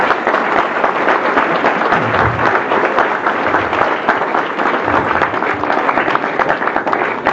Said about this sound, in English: And so I first want to have all of you give him a round of applause for doing this.